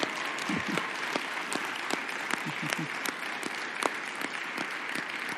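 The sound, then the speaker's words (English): Steady audience applause for the speaker's mother, a dense wash of many hands clapping at once with scattered louder claps, holding at an even level throughout with faint voices mixed underneath. “And would you give my mom a huge round of applause?”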